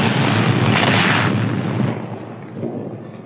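A structure sways and collapses after a blast and a terrible recoil blow, in a long, loud roar of crashing debris and rumble that holds steady for about two seconds, then gradually fades. No voices.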